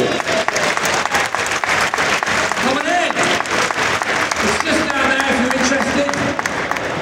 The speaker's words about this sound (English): So as you might have guessed, the winner of the British Invention of the Year 2016 here at Gadget Show Live, give the warmest round of applause yet to eFoldy.